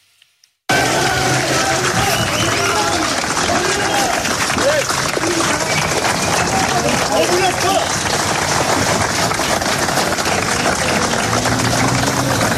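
Police officers in Marseille applaud colleagues as they are brought before a judge, a sustained, dense burst of clapping that fills the whole clip, with a low rumble of engines and crowd murmur underneath.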